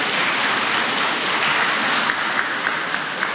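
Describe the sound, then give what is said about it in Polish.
Steady, dense applause from an audience, many hands clapping at once in a continuous wash of sound with no voices, holding at an even loudness throughout. “W tych oklaskach były pozdrowienia, oczywiście dziękczynienie za dar wspólnej wczoraj modlitwy.”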